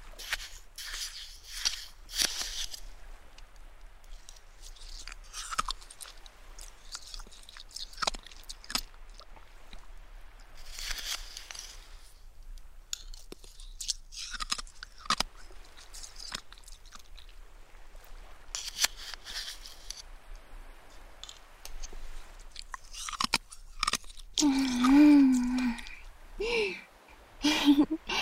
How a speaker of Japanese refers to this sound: かき氷の音、爽やかでいいでしょ？なんでだろうね。冷たいものが出す音ってさ、なんだか冷たくてシャキって感じがしない？するよね。